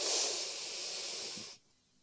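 A single long, deep inhale through the nose during a guided breathing exercise, a steady airy rush lasting about a second and a half before cutting off into near silence. No one speaks.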